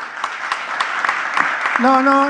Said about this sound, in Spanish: No estaba buscando un aplauso.